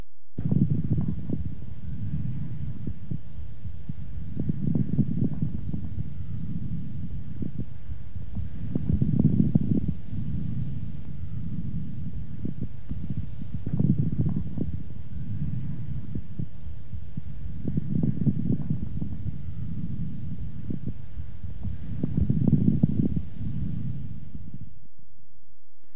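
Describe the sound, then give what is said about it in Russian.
Moist, medium and coarse bubbling lung crackles from a patient with bronchiectasis, heard through a stethoscope, popping in clusters with each breath about every four seconds over a low, muffled rumble. No one speaks. “Сейчас вы услышите влажные, средние и крупнопузырчатые хрипы у пациента с бронхоэктатической болезнью.”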